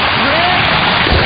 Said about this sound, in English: Our washing machine's rinse cycle can now pump 31 gallons of water per second.